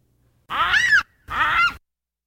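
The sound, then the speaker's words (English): A baboon screams twice in quick succession, each cry loud and harsh, lasting about half a second with a shrill, honking, almost bird-like tone, with silence around them. “Well, let's hear a baboon scream.”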